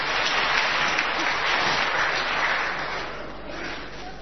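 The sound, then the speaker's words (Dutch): A crowd applauds during a quiz about God, with a dense, steady wash of clapping that holds for several seconds before easing off slightly at the end, with no voices rising above it. “Applaus!”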